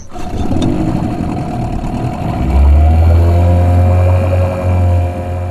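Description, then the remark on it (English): A boat engine on Moreton Bay drones steadily and loudly, a low rumbling hum with a throaty tone that deepens and swells a few seconds in, then holds steady without any voices. “on her boat to learn more about the flood damage in Moreton Bay.”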